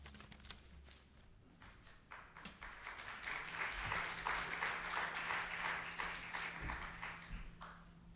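An audience at Northwest Bible Chapel applauds steadily, many hands clapping in a dense patter that swells in the middle and then tapers off, with a low hum underneath and no talking.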